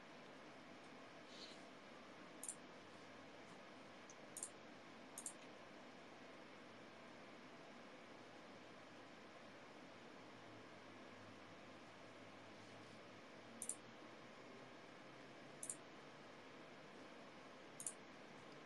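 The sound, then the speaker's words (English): Six isolated, sharp key clicks, spaced irregularly a second or more apart, individual keystrokes on a keyboard with fairly stiff keys, over a steady background hiss with no voices. “Can you confirm that your typing speed is 200 words per minute? Not on this, I don't think.”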